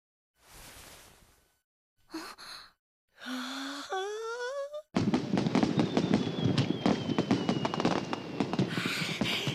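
Fireworks burst into a loud, dense crackle of rapid pops and bangs lasting several seconds, with a thin whistle trailing through. A few short breathy vocal sounds and a rising whistling tone come first.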